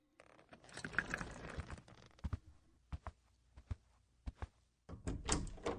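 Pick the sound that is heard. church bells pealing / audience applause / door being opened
door being opened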